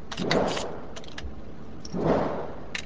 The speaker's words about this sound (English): the sounds of gunshots bleed through the concrete that divides the range.